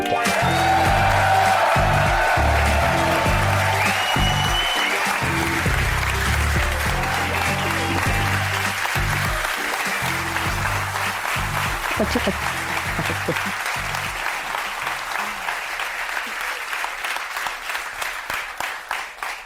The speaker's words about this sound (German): Ein krasser Applaus, habe ich gar nicht mitgerechnet. Ich auch nicht.